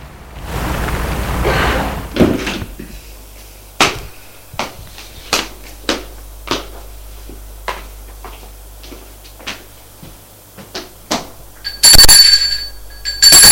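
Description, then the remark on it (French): A car door thuds shut after a rumble of engine noise as a man stops his car in front of an apartment building and gets out, followed by a run of sharp footstep-like clicks and then a louder, ringing clunk as he enters and the building door closes. No voices. “Sort de voiture et entre dans l'immeuble.”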